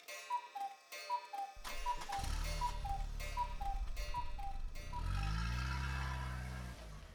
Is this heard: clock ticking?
yes